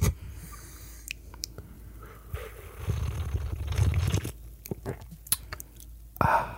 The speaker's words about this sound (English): Let me do some ASMR with the espresso sipping. You ready? Okay. You have to like really pump the mic up on this one.